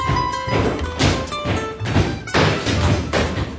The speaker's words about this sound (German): Das Stampfen im Hintergrund symbolisiert akustisch die reale Ausreise Rudi Dutschkes nach West-Berlin.